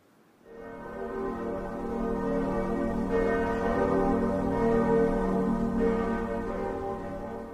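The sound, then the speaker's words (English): Church bells ring out with rich, sustained tones, fresh strikes arriving every few seconds over a lingering hum of overlapping resonance. No one speaks. “Church bells can remind us of the passing of time or perhaps our own mortality.”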